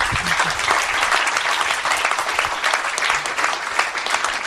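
A crowd applauds steadily, a dense wash of many hands clapping at an even volume throughout, with no talking over it.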